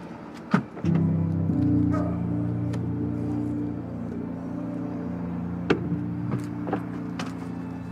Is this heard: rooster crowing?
no